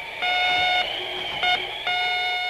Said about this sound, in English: And on my back, I had an EDF that went beep, beep when I was on the trail, and beep, beep when I lost my way in the snow.